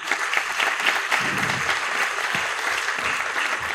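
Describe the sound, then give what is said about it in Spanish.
Sustained applause from an audience as a speaker is invited to the stage, a dense steady patter of many hands clapping at once, fairly loud and even throughout with no voices standing out. “Un aplauso, por favor.”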